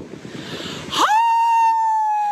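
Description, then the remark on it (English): A staff member imitates a howl, recorded for a video. Low muffled noise gives way to a quick upward swoop into a loud, steady, high-pitched wail that holds without breaking until the end. “So here is some of our staff, mostly our This Gen team, giving you their best impressions of howling.”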